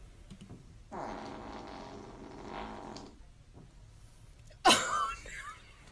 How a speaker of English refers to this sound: So keep in mind, she's just staring at the camera, lets out the fart, and then you hear her break down in laughter